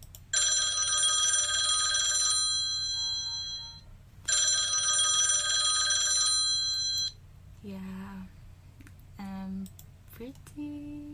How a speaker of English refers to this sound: What's your current phone ringtone? Feel free to play it. So my phone is always on silent, but this is my ringtone.